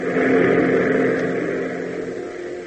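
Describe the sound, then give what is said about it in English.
A P-38 fighter plane roars in, its engine a steady, throaty drone with a low harmonic hum, holding strong for a couple of seconds before easing off slightly. No voices. “As Dudley's voice crackles grimly through his headsets, Hop hesitates momentarily, but then, seeing the P-38 roar in, its nose guns black and threatening, and the Stinson following, he gives up and turns the Beechcraft in a sharp bank”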